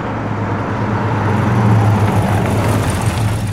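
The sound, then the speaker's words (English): A taxi that has come back pulls up, its engine rumbling steadily with a low, droning hum and a broad wash of road noise, holding at a fairly loud, even level throughout with no voices. “Look over there. Our taxi's come back.”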